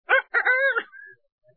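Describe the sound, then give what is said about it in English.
A rooster crows once, loud: a short opening note, then a long, strained, wavering call that trails off into a thin fading tail. No one speaks. “He used a rooster.”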